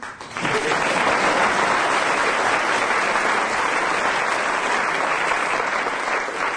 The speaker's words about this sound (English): the next time the audience applauds a late arrival vociferously, we shall close the program.